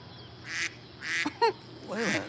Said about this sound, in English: Do you hear that? Yeah, I know what you're thinking, but it's not me. There's a duck somewhere on the Moses display. It's not programmed in the sequence. It must be something down there.